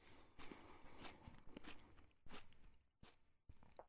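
Crunching of someone biting into a crisp apple to judge its taste, with a series of loud, irregular crunches and wet mouth sounds over about four seconds, no talking.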